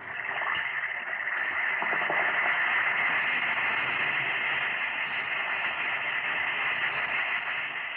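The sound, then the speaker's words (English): An Alka-Seltzer tablet fizzes in water, a steady, bright hiss of bubbles with faint crackling. It runs unbroken and fairly loud for about eight seconds, with no voices. “Listen to it fizz.”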